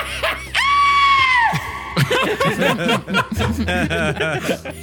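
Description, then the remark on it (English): A loud, exaggerated in-character scream, made after rolling an intimidation check, rings out, held high for about a second before sliding down and cutting off, followed by several people bursting into laughter and chatter. “Actually, based on how my intimidation check goes, I will then scream appropriately.”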